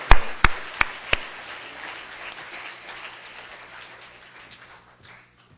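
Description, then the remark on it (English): A church audience claps in welcome: a few sharp, loud claps up front swell into a dense wash of applause that gradually fades away over several seconds, with no voices. The audience welcomes a visiting speaker to come up for the message. “And I know that we don't usually extend a special welcome, but since he's so infrequently being here, let's clap our hands and welcome him to come for the message.”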